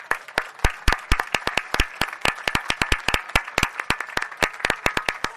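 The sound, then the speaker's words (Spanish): An audience applauds steadily for several seconds, many sharp claps overlapping in a dense, irregular patter at a fairly even loudness, with no voices over it. “Creo que se merece un gran aplauso.”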